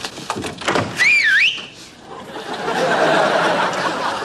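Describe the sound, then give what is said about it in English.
A person gives a short, bright whistle lasting about half a second, sliding up, dipping down and rising again, followed by a stretch of steady, hissy background noise. “Come on, I whistled.”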